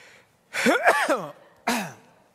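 A voiced, wavering build-up leads into a sharp, loud burst with a falling pitch, the pattern of a single sneeze. There is no talking around it.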